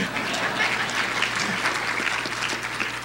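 A crowd applauds steadily, many hands clapping in a dense, continuous patter of bright smacks that holds at an even, fairly loud level throughout, with no voices standing out.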